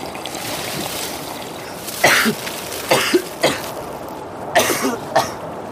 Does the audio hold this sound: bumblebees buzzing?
no